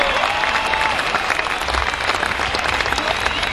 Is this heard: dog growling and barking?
no